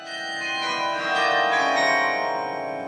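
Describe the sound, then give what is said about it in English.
Carillon bells ring out from the 120-foot bell tower of Idlewild Presbyterian Church in Memphis, Tennessee, a 20-ton carillon played by two carillonneurs. Several tuned tones overlap and sustain with a shimmering, metallic resonance that swells slightly midway, with no voices. “It houses 50,000 pounds of steel, containing one of the South's heaviest and rarest musical instruments, a 20-ton carillon.”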